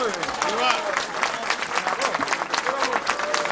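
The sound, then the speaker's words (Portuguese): A crowd in Lalín, Galicia, applauds steadily after the festival proclamation speech given by Moncho Borrajo, dense overlapping claps forming a continuous wash of sound, with a few raised voices cheering over the clapping. “Forte aplauso, amigas e amigos.”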